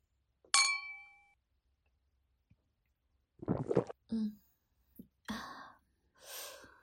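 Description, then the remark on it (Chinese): A single bright clink of glasses of alcohol raised in a toast rings out and fades over about a second, followed after a pause by a few soft breathy vocal sounds and sighs. “干杯。”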